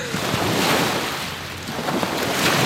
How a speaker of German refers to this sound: Am Elbstrand schlagen die Wellen ans Ufer.